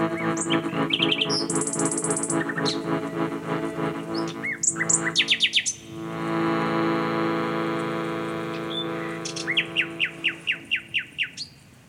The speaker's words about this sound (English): so much to be learnt from these birds. Really? Like what? To speak from a place of absolute truth, a sense of reverence, a sense of devotion, of gratitude.